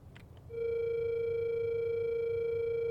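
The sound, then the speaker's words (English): A phone call's tone on speakerphone comes in after a brief rustle of background noise, then holds as one steady, loud electronic beep without any break until the end. “Grab my phone and call”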